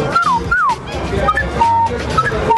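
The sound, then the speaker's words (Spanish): A voice imitates loud macaw (perico guacamayo) screeches: two sharp, falling squeals come first, then a run of shorter, high, whistle-like cries, all loud and with no talking. “Y los pericos guacamayos que hacen así muchísimo ruido, ¿no? Así como un grito.”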